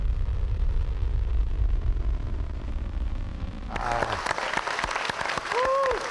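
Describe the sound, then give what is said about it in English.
A low, steady rumble gives way abruptly to loud applause from standing scientists in a control room during the rocket launch of the Webb telescope, many hands clapping in dense bursts, with voices cheering and calling out over it toward the end. “is clapping, wearing a mask”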